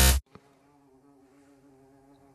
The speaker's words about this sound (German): Es brummt, ja? Es brummt, oder? Das ist eine Hummel. Das ist irgendwas, ein Viech. Großes Viech, was hier rumschwirrt. Wir haben eine Hummel im Studio, meine Damen und Herren. Man hört sie.